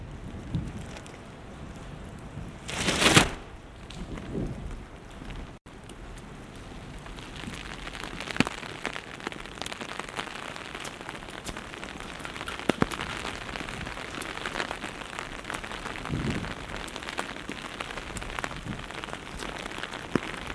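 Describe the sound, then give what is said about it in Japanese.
Steady rain patters on a hard surface throughout, a dense wash of drops with occasional louder splats, and a brief heavier burst near the start. No one speaks. “ねえ、雨は好き？”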